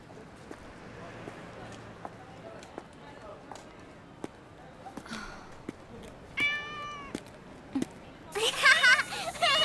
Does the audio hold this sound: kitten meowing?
yes